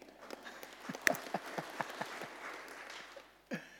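An audience claps in scattered, uneven bursts for a few seconds, with sharp individual claps standing out over a soft wash of quieter clapping, then a final lone clap.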